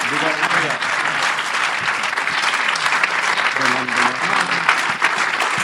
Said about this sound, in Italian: Hágalo con un fuerte aplauso. Fatelo con un forte applauso.